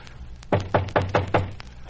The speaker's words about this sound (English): All right, rap on the door.